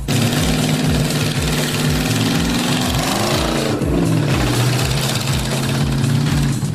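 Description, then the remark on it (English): A wide-tired Mule utility vehicle's engine drones loudly and steadily with a rapid low throbbing as it races laps round a track with tight corners, its pitch dipping and climbing midway as it eases off and revs up again. No one speaks. “The wide-tired monster mule can ride those tight corners like it's on rails.”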